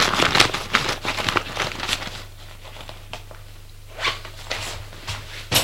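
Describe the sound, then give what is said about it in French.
Busy rustling of fabric as a man rummages through the pockets of someone's clothes left in a bedroom, with soft crinkles and scratchy bursts coming in uneven clusters, quieter in the middle and picking up again near the end. “Il fout dans la poche de ses vêtements pour savoir où il peut être.”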